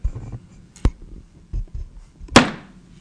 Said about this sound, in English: closed the door.